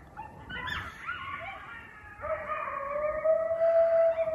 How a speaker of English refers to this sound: That is the freakiest thing. That animal call, those are coyotes.